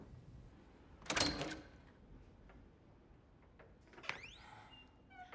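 A door at the top of a flight of stairs opens: a dull clunk of the latch, then a few quiet taps and a short, high creak of a hinge swinging, in an otherwise hushed setting with no talking.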